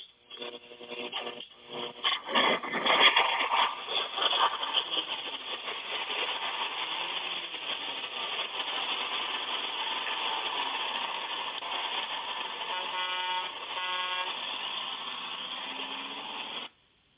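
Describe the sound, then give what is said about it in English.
The engine of the Six Eyes Gospel Bus rumbles and idles steadily, rattling louder at first, with a couple of short horn honks sounding near the end; no one speaks. “who do we got on the old gospel bus tonight?”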